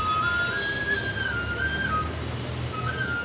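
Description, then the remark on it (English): A wooden flute, played by a man selling wooden flutes on a busy street in India, plays a high, wavering melody of sustained and sliding notes, with a brief pause before it resumes, over a steady bed of low street noise. “Or that man selling wooden flutes on a busy street.”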